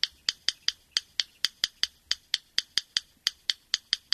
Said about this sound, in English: the yellow rail's mostly nocturnal breeding call wouldn't hit most ears as something of bird origin. It sounds like the click track from a salsa tune played with two rocks.